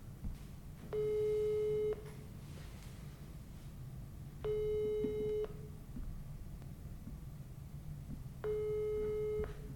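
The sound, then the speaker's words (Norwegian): A telephone ringback tone, from a call to the leader of Delta P, repeats three times, each steady electronic burr lasting about a second with long pauses between, heard clearly over a low rumbling background hum. “Tenkte vi kunne ta en liten telefon til han.”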